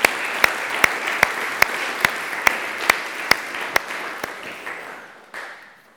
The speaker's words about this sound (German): Und ich glaube, das darf ein Applaus für euch einfach mal sein. Ich glaube, wir dürfen einfach mal applaudieren, und zwar einander. Und vielleicht ist das so der Moment, wo man einfach mal mit einem großen Applaus füreinander anfangen kann.